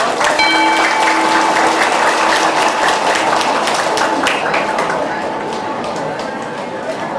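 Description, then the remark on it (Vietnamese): A crowd bursts into loud, sustained applause, dense clapping filling the whole stretch and easing off slightly toward the end, with a faint steady tone ringing underneath. “Nếu quý vị cảm thấy là vượt qua mặc cảm tự ái là một nhu cầu để trải nghiệm hạnh phúc đó, thì hãy cho một tràng vỗ tay thật lớn nè.”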